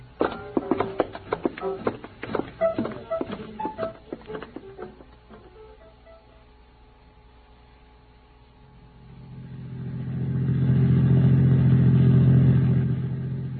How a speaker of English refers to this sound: Get the car started. I'll phone in a radio alarm, then we'll take out after it. Sure thing.